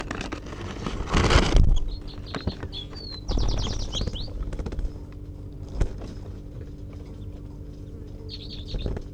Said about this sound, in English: She just gave a tight, a sharp little toot as she took off.